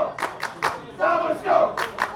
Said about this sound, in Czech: MOL Kapro zehráli na Jihočech dva tradiční týmy, do Soběslavy dorazilo Táborsko. Slyšet byli víc fanoušci hostů.